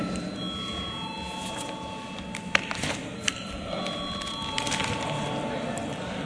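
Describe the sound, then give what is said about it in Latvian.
An electric voting bell in a parliament rings steadily through the whole stretch before deputies vote on a bill in its final third reading, a sustained high metallic tone over a low murmur of people, with a few sharp clicks partway through. “Lūdzu, zvanu.”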